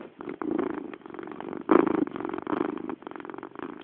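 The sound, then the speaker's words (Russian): A cat purrs steadily, a low rumbling drone pulsing in a regular rhythm with a slightly muffled, narrow tone, recorded on a Sony Ericsson K310 mobile phone. No one speaks. “Даже мурлыканье кота вы слышали.”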